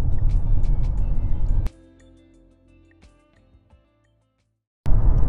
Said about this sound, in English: So right now I just got off from work and I'm in the car driving to get my girlfriend and go grocery shopping because we don't have any food in the fridge.